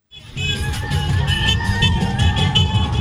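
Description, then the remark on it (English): A lively crowd of women chanting together over steady, rhythmic clapping, with high-pitched cheering rising above, outside polling stations in Cairo on election day, in a festive way typical of weddings and celebrations. The sound is loud and continuous throughout, with no spoken words. “Women chanted, clapped and cheered in a way typical of weddings and celebrations.”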